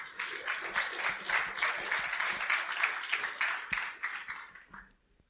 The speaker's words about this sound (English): You're supposed to wait till after I'm done if you're going to clap.